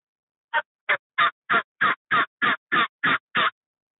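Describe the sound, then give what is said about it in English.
A mouth call imitates a hen's simple cluck: ten short, raspy clucks in an even, steady rhythm, moderately loud, with no talking over them. “So here, we'll do simple cluck.”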